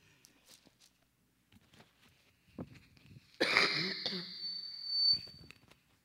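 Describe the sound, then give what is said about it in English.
Loud coughing and throat clearing: a few soft clicks and breaths, then a harsh, raspy burst lasting over a second that ends in a thin, wheezy whistle. No one speaks. “My coughing isn't going to get that bad this week, Carl.”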